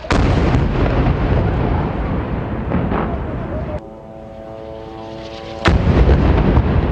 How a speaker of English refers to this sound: Explosions over Gaza City yesterday as Israeli airstrikes targeted tunnels and more.